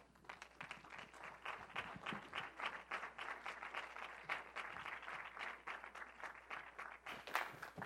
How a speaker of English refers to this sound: That was a clap for me.